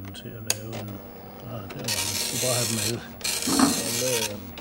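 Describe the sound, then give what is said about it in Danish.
An Epson Apex 80 9-dot matrix printer prints in two long, raspy buzzing bursts, separated by a brief pause, fairly loud, with faint voices or tones murmuring underneath. “En Epson Matrix 9-dot Apex 80 printer, der kunne sælge i enorme oplag, hvis bare den blev markedsført ordentligt.”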